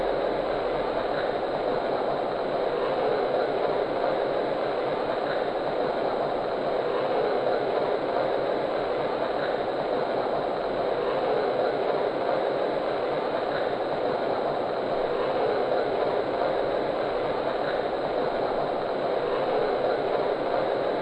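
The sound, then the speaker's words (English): Train number 53 departs a station on track one bound for Miami, rumbling steadily and continuously for the whole stretch, a dense, even roar of rail noise with faint rhythmic clatter underneath and no voices. “Now departing on track one to Miami, train number 53, the city of Miami.”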